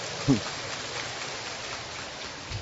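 A crowd applauds to thank a small child who gave 200,000 dong as a charity donation, with a steady, dense patter of clapping that holds at an even level throughout, broken only by a brief low thump near the start.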